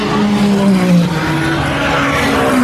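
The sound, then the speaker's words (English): Loud endurance race cars, a Ferrari, Porsche, Cadillac, Porsche and Ferrari, roar past in quick succession, their high whining pitch sliding downward as each one speeds by, with a steady wash of track noise and no voices. “Ferrari, Porsche, Cadillac, Porsche, Ferrari. There are four Cadillacs running this year.”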